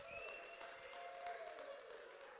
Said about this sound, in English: Could I have a round of applause for the kids this morning?